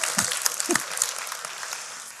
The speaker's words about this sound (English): If you want to hear it, give the Lord a hand clap.